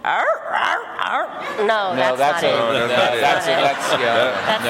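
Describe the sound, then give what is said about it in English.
A person loudly imitates a donkey's bray with a string of strained, wavering vocal cries, rising and falling for several seconds without pause, though the attempt comes out sounding rather doglike. “What sound do you think they make? Don't they go...”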